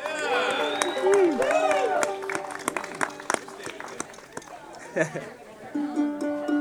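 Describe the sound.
Audience applause for the musicians about to play: a steady patter of many hands clapping, mixed with cheering and shouting voices from the crowd. It stays fairly loud throughout, with a few sharper claps near the end.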